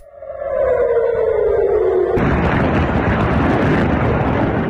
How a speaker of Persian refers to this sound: به دنبال ادامه حملات موشکی از سمت غزه به اسرائیل، ظهر روز دوشنبه صدای آژیر در مناطق مختلفی از شهر تل‌آویو به گوش رسید و ویدیوهایی در شبکه اجتماعی از انفجار دست کم یک موشک در اطراف فرودگاه بن‌گوریون این شهر منتشر شد